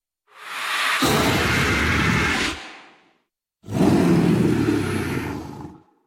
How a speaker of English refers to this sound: Additionally, Rek'Sai doesn't speak a traditional language, which is another first for the game. She speaks in a series of feral snarls, growls, and roars, which vary from low grunts to high-pitched screeches.